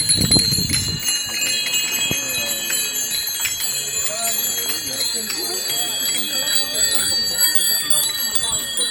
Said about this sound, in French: de sonnette, s'il vous plaît.